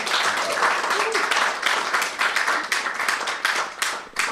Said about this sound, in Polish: Tutaj dzisiaj przede wszystkim chciałam przywitać wszystkich Państwa, którzy są z nami na żywo. Dzień dobry. Możemy bić brawo, tak?